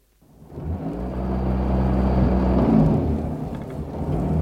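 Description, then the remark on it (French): A car engine starts up and drives steadily, a low droning rumble with a faint whine above it, constant after a brief quiet start, with no voices. “Bon, alors habillez-vous au galop et venez avec moi. Je vous raconterai dans la voiture.”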